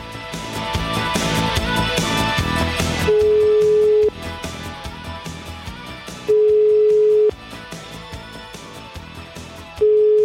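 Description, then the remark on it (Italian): A telephone call is placed to the mayor, Nino Di Guardo, to ask for explanations. After a stretch of busy, noisy background, a steady mid-pitched ringing tone sounds in loud one-second bursts, repeating about every three seconds with no one speaking. “Ha chiamato il sindaco sentiamo, per chiedere spiegazioni.”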